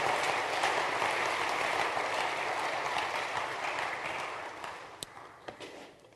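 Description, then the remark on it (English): A church audience claps steadily in sustained applause of appreciation that gradually thins and fades out, with a few scattered final claps near the end. “Let's give them just a round of applause for appreciation.”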